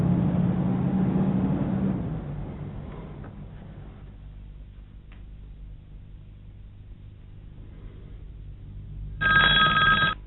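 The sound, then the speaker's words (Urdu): A telephone rings once near the end, a bright, buzzy burst lasting about a second, loud over a steady low background hum, with no voices. “صحیح، فون اٹھاؤ.”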